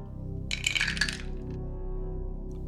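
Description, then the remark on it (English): A brief clatter of three dice being rolled, tumbling and rattling across a hard table, a quick burst of sharp clicks that settles within a second over a quiet, steady background hum. “All right, so you get 3 total dice.”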